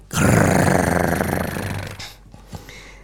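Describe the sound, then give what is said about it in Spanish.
A bear cub grunts in one loud, rough, throaty growl lasting about two seconds and slowly fading, then a couple of brief, softer snorting grunts follow. No one speaks. “Escondido bajo las sábanas, con el hocico arrugado y la mirada vidriosa, el pequeño oso Elías gruñía, gruñía y gruñía.”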